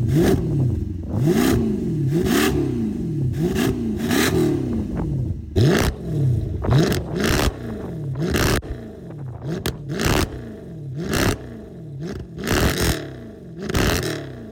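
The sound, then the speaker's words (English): A car engine revs repeatedly through a loud, valved aftermarket exhaust (full Valtronic exhaust with stock headers), first with the valves closed and then open, each blip rising and falling in pitch, some with sharp crackles and pops, prominent with no one talking. “let's show you guys what the revs sound like with the valves closed and the valves open”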